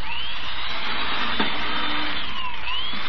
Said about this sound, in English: Look at it drill holes through this board. Oh, it drills too fast.